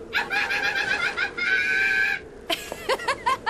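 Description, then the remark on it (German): A large black palm cockatoo, the biggest kind of cockatoo, calls: two long, loud, nasal, harmonic bursts, then a quick run of short upward-sweeping whistles and squawks, with no talking. “Klingt nach einem Palmkakadu. Der größte Kakadu, den es gibt.”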